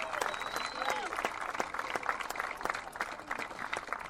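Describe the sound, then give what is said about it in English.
A crowd applauds steadily for about four seconds at the naming of a field, dense overlapping claps with a few sharper slaps standing out, while scattered voices and a brief whoop rise over the clapping. “I'd like to, yes, that's worth some applause, yes.”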